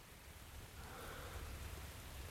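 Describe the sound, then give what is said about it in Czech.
Rain starting to fall: steady rainfall hisses in a continuous, even wash, with a low rumble underneath and no voices, holding at a moderate, consistent level throughout. “Ke všemu začíná pršet.”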